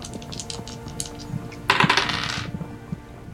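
dice being rolled

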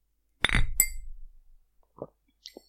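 glasses clinking

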